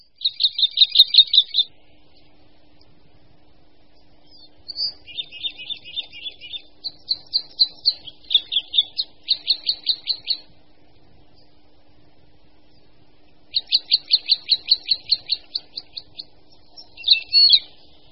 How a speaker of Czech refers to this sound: křivka obecná.